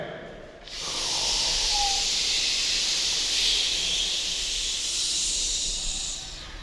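A choir's voices exhale together in a long, sustained hiss during breathing exercises at a rehearsal in a large hangar at a primary school in Lira, northern Uganda. The hiss starts abruptly and holds steady for several seconds before fading slightly at the end.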